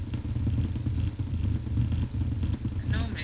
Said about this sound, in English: as people, as the cars come out, the lights change. So obviously this early, there's not going to be many that's actually coming out.